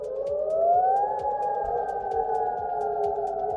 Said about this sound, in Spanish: Pues estas eran las sirenas antiaéreas que resonaban en la ciudad de Adana.